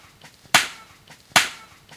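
Two sharp, hard chopping blows as a woman in Tonga splits a coconut with a sabre, each a loud bright impact with a short fading tail, spaced under a second apart against quiet background.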